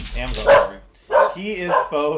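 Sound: puppy barking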